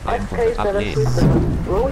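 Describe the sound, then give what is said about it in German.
Heavy rain and hail drum down in a dense, continuous roar, with people talking loudly over the noise throughout. “Oh, es regnet. Oh, Hagel.”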